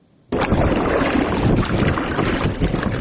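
A rubber passenger boat crossing the Kofarnihon River near Shirkhoni village, about 10 km from Dushanbe, carrying residents from one bank to the other, with a loud, steady rush of water and wind buffeting the microphone. The noise starts abruptly and continues without any voices.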